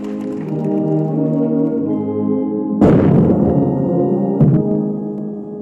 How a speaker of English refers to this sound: As an army band delivered the national anthem and soldiers saluted Ramaphosa with cannons, the president reiterated, South Africa belongs to all who live in it.